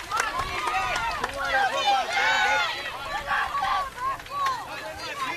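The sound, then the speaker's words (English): A baseball stadium crowd yells player CJ Seinflohn's name from the stands during his at-bat, many overlapping voices shouting in rising and falling calls, loud and steady across the whole stretch with no single clear speaker. “You can hear CJ Seinflohn's name being yelled throughout the stands here.”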